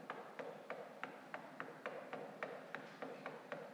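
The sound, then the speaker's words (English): Steady, evenly spaced knocking at the door of a gate, a dozen or more light raps in a continuous rhythm, moderately quiet, with no voices. “And as Peter knocked at the door of the gate.”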